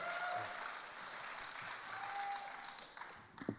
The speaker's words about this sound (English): So I want to invite them out right now. They're hiding backstage. Come on out. And we can give them a big round of applause, and they're going to share about some of their experiences.